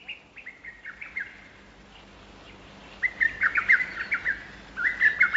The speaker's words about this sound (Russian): Первое слово – малой кукушки. Она живет в районе Владивостока. Итак, уважаемая малая кукушка, у нас к вам один вопрос. Скажите, как вы кукуете?